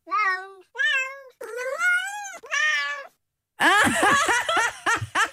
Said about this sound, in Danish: Er det kras i et møbel på kattis? Det er kattesprog for kras i et møbel.